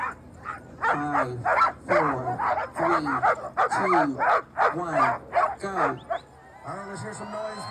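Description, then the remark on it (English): A team of Iditarod veteran sled dogs barks and yips excitedly in a rapid, overlapping, loud chorus, with some higher whining yelps mixed in; a voice talks faintly underneath. “his team is in great shape to run, and they're all Iditarod veterans, like him.”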